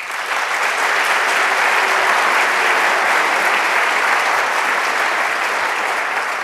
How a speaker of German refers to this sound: Dafür mal vielleicht noch eine Runde Applaus.